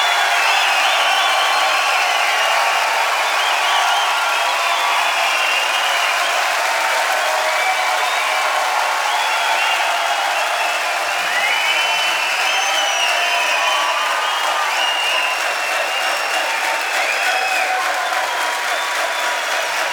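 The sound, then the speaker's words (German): A large crowd claps and cheers steadily for the whole stretch, a dense, loud wash of applause with scattered shouts and whoops rising above it, given for the show's crew. “Haben mit Getose, mit Geschrei und allem drum und dran.”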